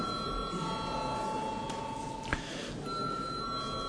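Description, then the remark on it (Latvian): The bell in Latvia's parliament, the Saeima, rings to call deputies to vote on a draft decision. It is a steady, high electric ringing that holds throughout, briefly fading in the middle before resuming, with a single sharp click partway through and no talking. “Lūdzu zvanu.”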